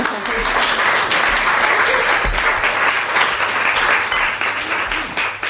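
An audience applauds steadily for several seconds to welcome guest Maya Göpel, a dense, even wash of many hands clapping at a loud, sustained level with no individual claps standing out.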